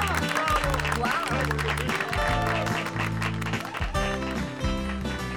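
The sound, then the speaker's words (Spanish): Steady audience applause for eleven girls and boys at an event, a dense crackle of many hands clapping that continues for the whole stretch, mixed with music carrying a low, rhythmic bass line underneath. “Así que, ¡venga un aplauso para 11 niñas y niños que hoy nos entregan esta gran sorpresa!”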